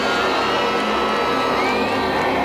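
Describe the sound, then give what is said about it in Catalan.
A crowd at an outdoor stage show applauding and cheering after a woman was asked to close her umbrella, a dense, steady wash of clapping with scattered shouts mixed in, loud and continuous throughout. “I aquest aplaudiment que senten és perquè David García li ha demanat a una dona que si tenia l'amabilitat de parar el paraigües.”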